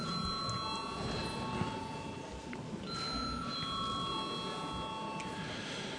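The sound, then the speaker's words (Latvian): A bell rings continuously to call deputies to a vote on a bill, a steady metallic electric ringing with sustained tones that hold at even loudness for the full stretch, with no talking. “Lūdzu zvanu.”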